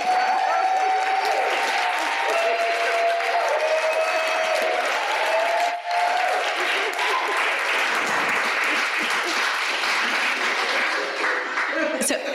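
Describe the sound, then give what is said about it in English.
An audience applauds a panel steadily for several seconds, dense overlapping claps with faint voices and cheers mixed in underneath. “Can we give our panel a round of applause?”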